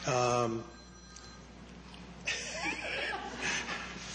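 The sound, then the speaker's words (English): A phone's ringtone chirps loudly for about half a second at the start, then a room full of people breaks into scattered chuckles and laughter. “You know, if this was my class, I would get to answer your phone.”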